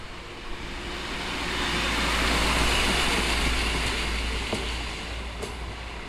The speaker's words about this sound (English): The bell is ringing at the level crossing. A local train from Kladno is passing.